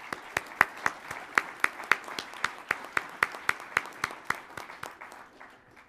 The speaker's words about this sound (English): Their names are on the screens here, and I think we should give all of our sponsors a big round of applause for supporting the conference today.